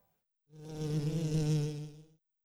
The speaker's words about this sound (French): L'abeille est devant le nez de Mireille.